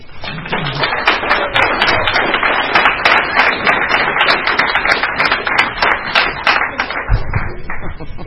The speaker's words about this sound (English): I'm so proud that she's made the journey, and please give her a warm round of applause.